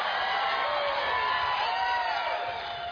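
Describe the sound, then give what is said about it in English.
An audience cheers and whoops continuously, a dense, loud wash of many voices with shrill individual shouts rising above it, sustained evenly throughout. “You're cheering about.”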